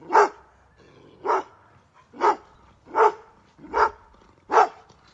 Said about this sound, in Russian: Костя услышал прерывистое собачье дыхание и следом громкий оглушительный лай